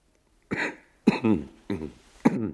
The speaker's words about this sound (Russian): Странно. Почему мне так знаком этот кашель? Почему? Да ведь это она сама так кашляла, когда ей бывало грустно.